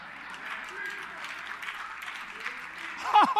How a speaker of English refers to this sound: You heard all the clapping and laughing in here today. That's because they know the story.